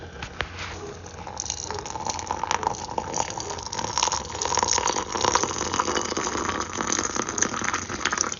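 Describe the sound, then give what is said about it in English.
Water is poured from a kettle from up high in a continuous splashing stream, fairly loud, building slightly in intensity over several seconds, recorded on an iPhone held beside it. No voices. “That was me holding the iPhone beside and pouring the water from up high.”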